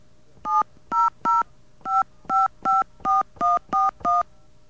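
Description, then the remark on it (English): A quick run of ten touch-tone keypad beeps on a phone system, each a short steady dual-pitched tone with brief gaps between, dialed at an even, brisk pace with a faint background hum. “Wonder if our phone system could even handle this.”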